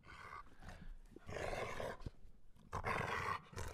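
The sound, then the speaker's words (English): A growling roar comes in rough, rumbling bursts, loud, like a dog snarling while playing tug, with brief pauses between the surges. “Sounds like a dog playing like with Herbie, a tuggy”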